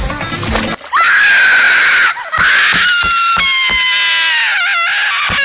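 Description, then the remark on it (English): A woman screams in pain after her palm is burned by piping hot liquid, loud: long, shrill, wavering cries that run for several seconds, broken only by a couple of quick gasps between them. “Even as Goldie screamed, a tear never fell from her eye, for the liquid sealed duck shut and she could no longer cry.”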